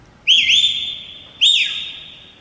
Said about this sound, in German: Da pfeift ein Mensch. Ich frage mich nach wem oder was. Er winkt auch irgendwen.